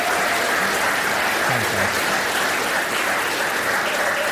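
An audience applauds steadily, a dense wash of many hands clapping at an even, fairly loud level throughout, with no one speaking over it.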